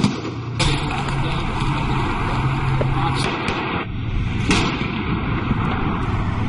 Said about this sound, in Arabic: تبدأ الآن عمليات الرماية المباشرة لاستهداف جيوب المجموعات المسلحة في محيط منطقة سيدي مقداد.